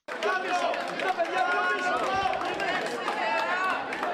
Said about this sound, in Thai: ประชาชนชาวกรีกต่างส่งเสียงเชียร์ให้กำลังใจนายกรัฐมนตรีอเล็กซิสซิปราสที่เดินเข้าคูหาลงคะแนนชานกรุงเอเธนในวันอาทิตย์